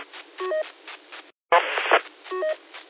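Short bursts of touch-tone telephone dialing beeps come through a thin, narrowband radio channel, with a brief dropout and a rush of static in the middle before more beeps follow.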